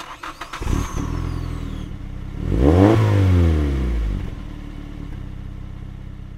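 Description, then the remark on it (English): A car engine clatters to life and idles, then revs up loudly with a rising and falling whine before settling back to a steady rumble as the car is pulled around, with no talking. “All right, Jeffrey, pull my car around.”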